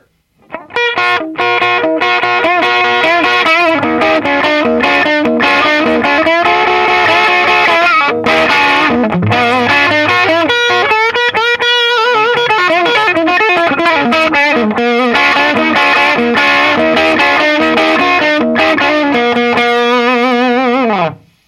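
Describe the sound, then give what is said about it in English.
An electric guitar plays a riff through a mildly overdriven amp as the amp's output gain is slowly turned up, the tone slightly gritty and warm with subtle distortion, loud, repeating steadily for about twenty seconds with no talking. “Okay, now to give you a little, now that you can hear it, it was a much more subtle distortion, the difference in the tone, but you could hear it actually overdriving the amp.”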